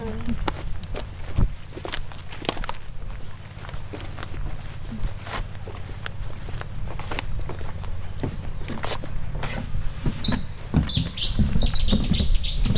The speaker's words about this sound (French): Là, tu vas enregistrer les oiseaux.